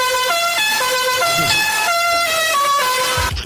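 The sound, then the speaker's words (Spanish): A loud, brassy novelty car horn plays the jaunty multi-note La Cucaracha melody, its stepped tones shifting pitch every fraction of a second, continuous, with no voices. “La cucaracha más hecha polvo que la bocina de la cucaracha es brutal.”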